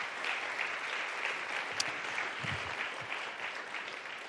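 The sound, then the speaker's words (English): A crowd applauds itself steadily for several seconds, a dense, even patter of many hands clapping, with a faint voice briefly audible beneath it. “Let's give ourselves one more round of applause for that.”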